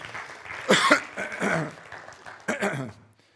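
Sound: throat clearing and coughing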